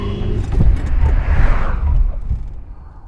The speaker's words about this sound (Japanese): お兄さん、前向いて、車来てるから。